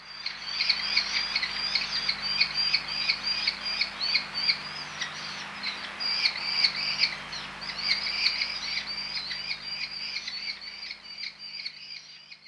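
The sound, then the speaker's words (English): A merlin calls in quick, high chattering bursts, its sharp notes running together in repeated series over a faint, steady low hum. “Merlins feed on small birds, especially meadow pipits, which they chase in flight low to the ground, and they nest on the ground amongst the heather.”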